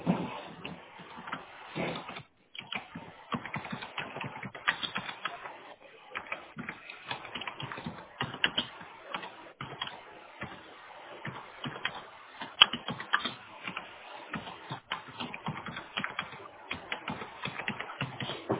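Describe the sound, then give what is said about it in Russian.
Rapid, uneven clicking of keys on a computer keyboard, steady for the whole stretch, with brief pauses between bursts of typing and no voices, as someone types up a service request. “ага, сейчас я пишу заявку.”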